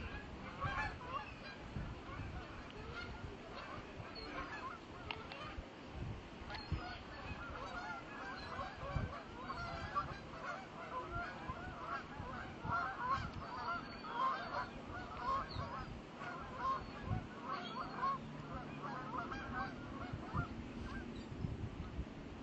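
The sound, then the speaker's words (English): A large flock of geese honks continuously for over twenty seconds, many overlapping calls forming a dense, steady chorus at moderate volume with no one speaking. “I love the sound of geese.”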